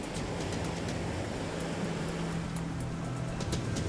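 A steady, full roar of ocean surf washes continuously with no clear breaks between waves as the tide comes in fast, fairly loud, with a faint low hum underneath and no voices.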